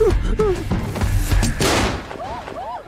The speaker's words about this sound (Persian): تیراندازی شد.